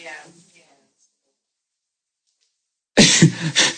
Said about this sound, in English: Bless you.